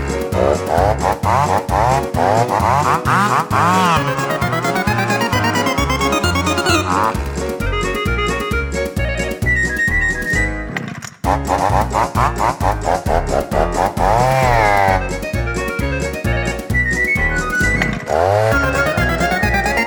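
A chainsaw revs loudly and rhythmically inside a lively mazurka tune, its engine whine rising and falling with the beat, with a brief dropout midway before resuming.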